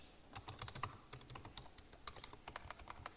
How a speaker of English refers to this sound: I'm actually typing this up. I'm tweeting this out.